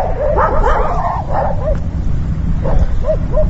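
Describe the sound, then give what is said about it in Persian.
Several stray dogs in Sheberghan bark and yelp in short, overlapping bursts over a steady rumbling background, with a few higher whining yips near the end, moderately loud. “ما هیچ سال جمع‌آوری میکنیم که به حساب سگای بیخی ولگرد است، هیچ پوست نداره، گوشت نداره، همه تو پوست شده ماندن.”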